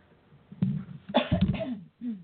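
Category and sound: human body sound, cough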